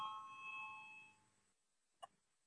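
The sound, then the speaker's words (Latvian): A parliamentary voting call bell rings to call a vote on a proposal, with a steady, buzzing metallic tone that fades out after about a second and a half, followed by quiet and one brief sharp click. “Lūdzu, zvanu, balsosim par 7. deputātas Jelinskas iesniegto priekšlikumu.”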